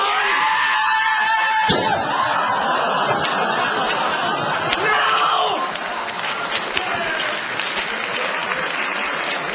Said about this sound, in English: Attack me with it! As hard as you like, come on! Come, no! Put something into it, for God's sake! Hold it like that! Scream! Now, come on, attack me! Come on!